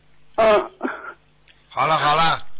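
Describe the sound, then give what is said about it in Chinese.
Three rough bursts of coughing and throat clearing, loud, with a short gap before the last, longer raspy one. “咳嗽，老是咳嗽。 咳嗽了。”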